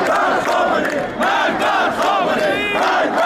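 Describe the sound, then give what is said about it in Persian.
A large crowd of protesters in Iran, during the Dey 1396 protests, shouts slogans in unison against velayat-e faqih and Supreme Leader Ayatollah Ali Khamenei, chanting in a rhythmic, loud roar with rising and falling voices, several pulses over about three seconds and no individual speech standing out. “شعارهای علیه ولایت فقیه و آیت الله علی خامنه ای رهبر جمهوری اسلامی فریاد زده شد.”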